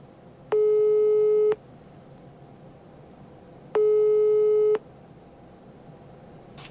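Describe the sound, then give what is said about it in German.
A telephone ringing tone from an outgoing call sounds twice over a faint background hiss, each steady buzzing pulse lasting about a second and separated by a pause of a few seconds. No one speaks. “Okay, ich rufe da jetzt an.”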